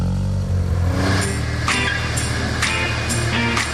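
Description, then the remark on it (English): A car starts and its engine runs steadily with a low rumble, with several short bright bursts of noise as it revs and drives out of a garage with the garage door up. No one speaks. “he's found the keys. He's all set and ready. Garage door's up.”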